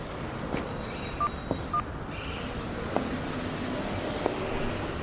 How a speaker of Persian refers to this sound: آقا کارتش دستمه، شماره موبایلش هم روش نوشته، دارم میگیرم.